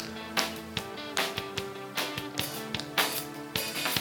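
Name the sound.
people clapping hands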